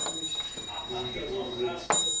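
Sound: shop door bell ringing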